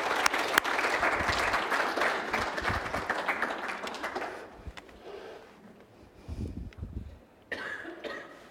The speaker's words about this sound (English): Let's give honor to these that have led us in worship today. Would you please? Let's give them a clap offering.